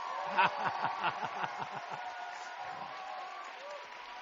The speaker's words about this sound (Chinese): 我们教会讲道的讲的好不好？哎，给他一个欢呼吧。